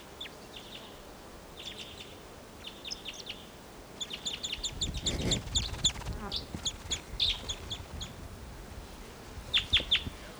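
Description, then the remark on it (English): A wild bird calls in bursts of quick, high chirps and trills, with a brief low rumble of background noise midway and no talking. “That was a wild bird.”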